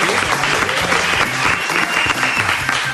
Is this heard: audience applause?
yes